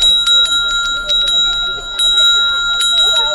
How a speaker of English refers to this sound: The women in the village gave her a string of little silver bells.